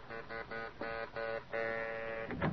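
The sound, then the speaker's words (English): A buzzing doorbell pressed repeatedly: several short, insistent bursts followed by one longer sustained buzz, harsh and mid-pitched, with no voices. “So, when her doorbell rings, a gleam appears in her sharp old eyes, and brushing her butler aside, she answers the door herself.”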